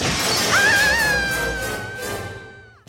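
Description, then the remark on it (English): A creature of living wax shatters to pieces: a loud shattering crash bursts out and sprays bright, crackling debris, while a high ringing tone sustains through it and fades away over about three seconds. No voices are heard. “she's shattered.”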